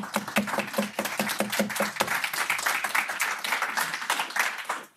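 A crowd claps and applauds steadily for about five seconds, the dense patter of many hands fairly loud and close, with a few distinct sharp claps at the start before it blurs together.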